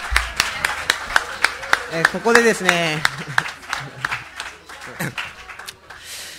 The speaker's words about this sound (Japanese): いや俺ビートボックスを見たのはちょっと初めてだったんですけど、あのテレビとかで、 ね、すごくなかったです ね、よく見るんですけど、うん、めっちゃ上手でしたね。もう一回拍手したいと思います。